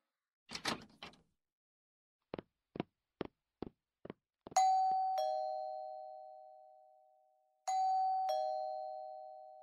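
A brief rustling thump, then five quick knocks on a teacher's door, followed by an electronic doorbell chiming twice, each two-note ding-dong ringing out and slowly fading.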